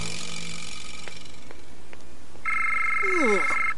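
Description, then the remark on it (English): After a few faint clicks, a phone planted on someone starts ringing partway through with a loud, steady, high electronic tone, and a warbling tone sweeps downward over it. “Would you stop planting phones on me?”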